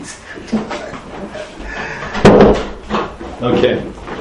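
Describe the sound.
A door bangs shut once partway through, closed at a speaker's request during a Mishnah lesson, a short sharp thud standing out over murmuring voices and room noise.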